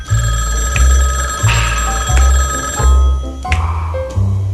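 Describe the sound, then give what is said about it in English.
A telephone bell rings loudly in a steady series of short, rapid bursts, about six in quick succession, with a bright metallic tone and no voices. “You hear bells, baby?”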